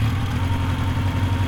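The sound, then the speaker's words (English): A motorcycle engine idles steadily with a low, throbbing rumble, fairly loud, holding an even pitch throughout with no voices. “The motorcycle.”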